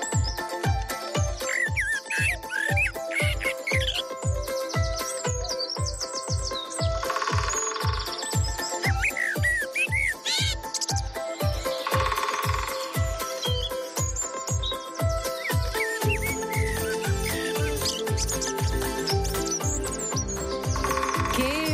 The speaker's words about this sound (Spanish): Preciosidad, esta melodía de la naturaleza con los sonidos del pájaro carpintero, de los distintos trinos.